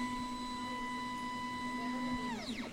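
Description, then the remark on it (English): A 3D printer warming up after starting gives a steady electronic hum and high whine that holds evenly, then near the end its motors kick in with quick rising and falling whirring sweeps, with no talking. “The printer takes a minute to warm up.”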